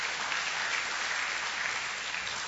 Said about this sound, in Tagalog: Amen? Pwede bang palakpakan natin ng Panginoong Jesus?